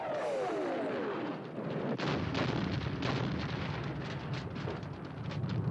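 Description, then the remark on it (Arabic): A falling whine gives way to a dense barrage of booming explosions and crackling bursts of gunfire, continuous and fairly loud, with no voices: three explosions and gunfire from the direction of Baghdad International Airport, where a strike killed Abu Mahdi al-Muhandis and Qasem Soleimani. “ها يا لطيف يا لطيف، شو هالاصوات يا لطيف، شنو هالثلاث انفجارات ورشقات ناريه؟”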